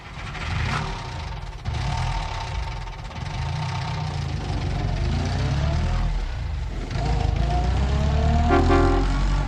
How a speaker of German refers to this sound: Da fährt das Auto weg mit so einem Singen im Sound, ne?